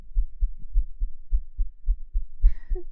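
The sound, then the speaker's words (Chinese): A fast heartbeat thumps steadily with low, muffled beats in quick succession, clear, with a faint brief rustle near the end. “喘气的声音再增加快一点的话，一般心跳就会变急促，好像科学上是这样子的吧。”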